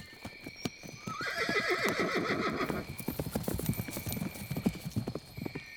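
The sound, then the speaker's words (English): Horses whinny loudly while hooves clip-clop in a quick, uneven rhythm, the neighing rising and falling over steady hoofbeats that continue after the calls fade. “Where are the horses?”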